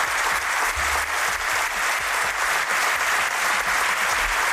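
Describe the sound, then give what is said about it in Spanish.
A sustained ovation from an audience at an awards evening for Chacho Rodríguez, a Real Madrid and Spain legend: dense, steady clapping from many hands that keeps up at an even loudness for the whole stretch, with no voices standing out above it. “Otro de los momentos más emotivos de la velada fue precisamente la ovación cerrada que recibió otra leyenda del Real Madrid y de España, el Chacho Rodríguez.”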